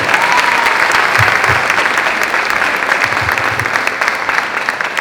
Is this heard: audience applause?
yes